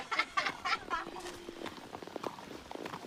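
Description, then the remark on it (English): Horse hooves clip-clop along a trail during a trail ride with a first-time rider, a loose, uneven rhythm of hollow knocks, with a brief burst of indistinct voices near the start. “Finally, the main event, a trail ride. And …'s first time ever on a horse.”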